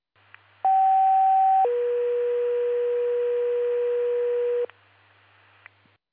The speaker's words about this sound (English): Attention, Prusa's pager test and test tone into Valcon primary paging system. Hi. Please disregard the tone.